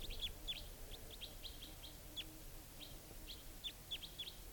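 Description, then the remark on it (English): A wild bird calls repeatedly from the top of a large tree where two birds, a type 2 and a type 4, are together, giving a series of short, high chirps and whistled notes at an irregular pace over a soft, steady background hiss. “And the type 4 bird joined it.”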